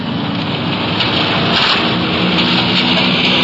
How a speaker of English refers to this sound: a strong wind is whipping the trees along the street. It could be we're in for some rain before long.